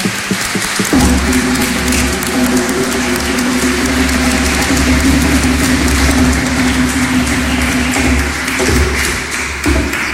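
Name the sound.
audience applause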